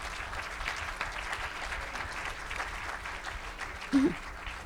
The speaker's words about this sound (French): Est-ce qu'on peut l'applaudir avant?